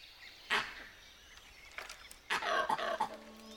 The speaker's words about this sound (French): Et voici les tigres, maîtres des lieux. Ils sont comme chez eux, parmi les ruines et les vestiges du jardin.